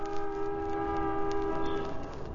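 Loud street traffic racket from a traffic jam, heard through an open window: a long, steady, multi-toned horn blast holds for about two seconds over a constant rumbling wash of noise, then fades. No one speaks.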